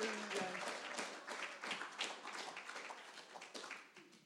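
A small round of applause: several hands clapping in a quick, uneven patter for about four seconds, fading slightly toward the end, with faint voices underneath.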